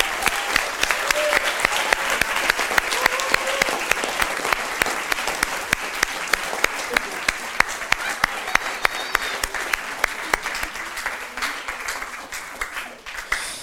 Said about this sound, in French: Venez, venez, tous ceux qui ont construit. Venez, venez. Venez, venez. Voilà, je vous propose de les applaudir.